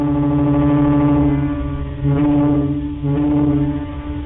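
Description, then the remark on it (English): Deep, brassy ferry horns, pulled by ferry captains, sound in long sustained blasts that overlap into one continuous drone, with fresh blasts swelling in about every second. Loud and steady, with no voices. “It was a slow-motion symphony of honks and blasts, and it was also a language for those who could understand it.”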